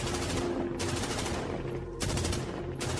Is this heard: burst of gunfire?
yes